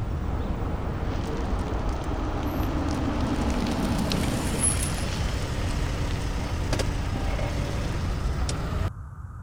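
A car drives at low speed with a steady engine rumble and road noise, then the sound cuts off abruptly near the end as it comes to a stop to park. No one speaks.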